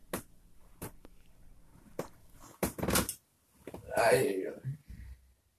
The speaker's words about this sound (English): A bunch of these recordings, like the next one, start with a bunch of creaking sounds. That's the bed. Most of my speech is preceded by creaky tossing and turning, 12:37 a.m.